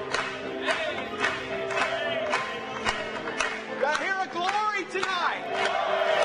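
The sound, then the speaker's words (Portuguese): An audience claps in praise during a worship hymn in a steady, even rhythm, sharp claps roughly twice a second, while many voices shout and cheer excitedly over the beat, a loud, full crowd sound. “Batamos palmas para ele.”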